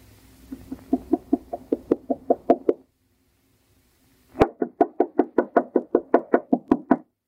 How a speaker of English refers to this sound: Harder, Alice. Knock harder. I can't. It hurts my knuckle.